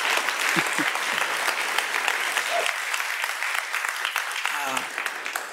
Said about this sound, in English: If we could just have like ruckus applause for the spiritual audacity, 150 years.